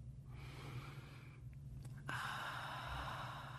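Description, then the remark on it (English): Quiet breathing with no talking: a soft, airy breath in, a short pause, then a slightly fuller, steady breath out that continues to the end. “Breathe in and breathe out. Slow, soft, comforting breaths.”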